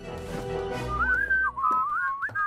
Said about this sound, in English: Inconspicuous whistling. Just a casual whistle.